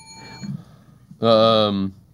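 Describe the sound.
A quiz lightning-round bell gives a single short ding that rings briefly and fades, followed a moment later by a loud, sustained droning voice tone held for under a second.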